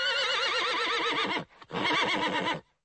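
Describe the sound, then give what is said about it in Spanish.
A Przewalski's horse at Prague Zoo whinnies loudly in two long, quavering bursts separated by a brief pause, with no voices around. “Su primer habitante fue la loba Loti, luego se construyó una pajarera para aves rapaces e inmediatamente después llegaron los caballos Przewalski, que pasaron al escudo del zoológico de Praga.”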